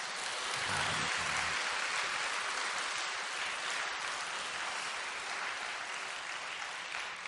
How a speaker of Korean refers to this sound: 박수나 한번 쳐봐요.